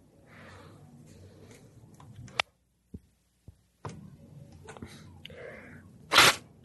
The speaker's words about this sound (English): I'm blowing my nose, Mom. You can hear my allergies. I think I have an allergy to cool weather because it's only in the mornings and the evenings, really.